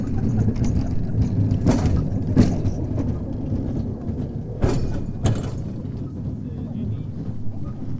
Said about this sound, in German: Hier rollt also die Pferdebahn einmal an uns vorbei.